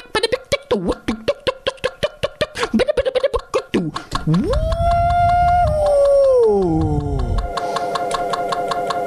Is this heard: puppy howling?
yes